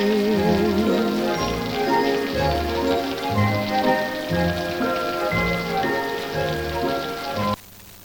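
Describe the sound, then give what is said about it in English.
Steady, close rain patters and hisses beneath a lush orchestral tune with a bouncing bass line. The music and rain play together without voices, then cut off suddenly near the end. “there you have an excerpt from Singing in the Rain, Gene Kelly, a long time ago”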